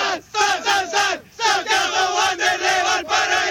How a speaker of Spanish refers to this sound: ¿podemos hacer el grito de Wanders o no? ¿En vivo para la radio?